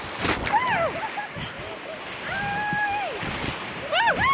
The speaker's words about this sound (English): It's going to be our best rapid of the day. This is fun. Can be class 3 in higher water, probably class 2 plus right now.